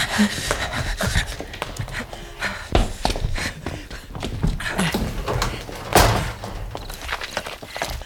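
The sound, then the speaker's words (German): A steady series of dull footstep thuds from behind a wall, roughly one to two per second, moderately loud, mixed with some faint breathing and rustling, with no talking. “Oh, hörst du die Schritte?”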